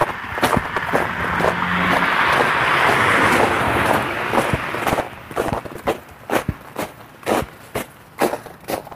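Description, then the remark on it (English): Footsteps walk outdoors at a steady, brisk rhythm, each step a sharp crunching thud. A broad wash of traffic-like noise covers the first half, then fades so the later steps stand out clearly. “God, that's awful walking.”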